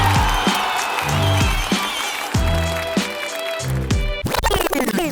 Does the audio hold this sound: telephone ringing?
no